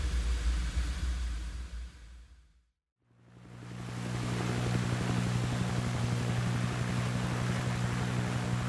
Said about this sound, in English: Kind of nice to see real airplanes and helicopters.